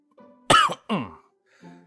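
Two sharp coughs in quick succession, the first louder and raspier, the second slightly softer, with no talking and only a faint low hum before and after.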